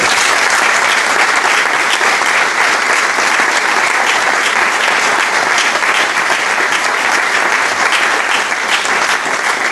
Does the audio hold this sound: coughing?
no